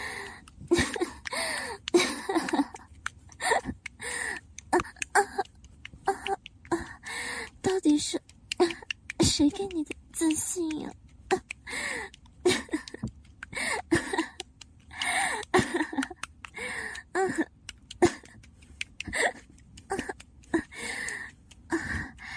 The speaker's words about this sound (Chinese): 姐夫，是不是听到我的喘息声，就觉得自己很厉害啊？